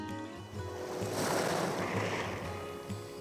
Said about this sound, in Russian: Волна пенисто накатывала, шуршала по гальке, нехотя уходила.